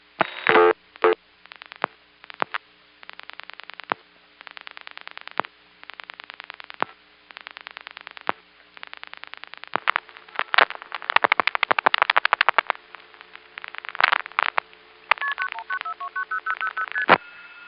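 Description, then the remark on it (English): A telephone dial pulses out four zeros (0000) at someone's house: rapid, evenly spaced clicks come in several long bursts with short pauses between them, heard over a thin phone line, followed by brief electronic tones. “Let's dial it one more time, except we'll dial 0000. I've just got to hear that thing dial out four zeros.”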